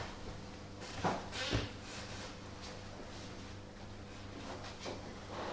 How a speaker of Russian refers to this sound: переходим в другое помещение. Вот открывается дверь, мы заходим.